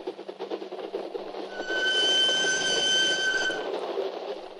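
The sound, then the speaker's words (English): A train rumbles loudly and steadily along the rails as it crosses the border and the flat Holland marshes toward Denmark, with a high metallic wheel squeal ringing out for a couple of seconds midway before the rolling roar continues. “As my train crossed the border and thundered across the flat Holland marshes toward my refuge in Denmark,”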